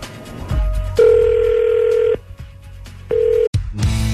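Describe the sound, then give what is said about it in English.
A phone line rings out as a radio show places a call for its War of the Roses segment: two long electronic ringback tones separated by a pause, fairly loud, with a low background hum and a brief click between them. “we're going to give him a call”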